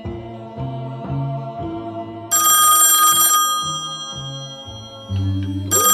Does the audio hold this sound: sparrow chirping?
no